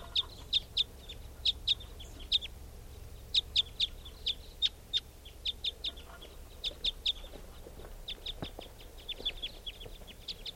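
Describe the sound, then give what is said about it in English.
Two type 5 birds calling, either coming back or flying over: sharp, high-pitched chip notes repeated in quick bursts and pairs throughout, steady and fairly loud, over a low background rumble with no voices. “Well, the recording sounds like the type 5s are coming back. Or else it's flying over.”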